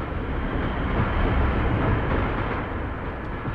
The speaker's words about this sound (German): Und da fing es an. Ein leises Rollen kam aus dem Gewölbe. Konnte das der Geisterzug sein?